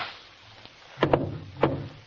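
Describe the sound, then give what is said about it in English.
Three sharp gunshots crack out in quick, uneven succession, the first two nearly back to back, each leaving a short rumbling tail over a low, steady hum; Watson shoots first, leaving a man with a flesh wound in the shoulder. “Watson, if you hadn't shot first...”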